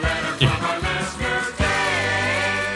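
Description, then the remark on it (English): A short burst of full-band theme music played by a band plays loudly and alone, with rhythmic hits early on before a sustained, dense chord rings out to the end. “Where's that music? There it is.”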